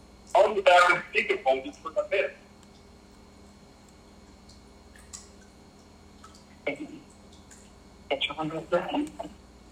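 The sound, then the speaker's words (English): A muffled, tinny voice comes through a phone speaker in two short bursts of talking, separated by a few seconds of quiet background hum. “We can just take his phone here and let him hear it.”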